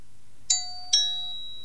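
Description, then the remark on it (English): A two-tone electronic doorbell chime from a toy sound-matching card game, played when a card button is pressed: ding then dong, two bright tonal strikes with ringing tails over a faint low hum, no talking. “So what I've got to try and do now is find another button where the doorbell goes and then pair the two up.”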